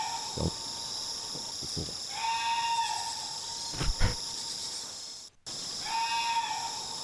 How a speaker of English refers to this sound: And I think we have this sound, I hope. We will have this sound soon. Fingers crossed. Barking deer. It doesn't really bark. It's more like... There we go.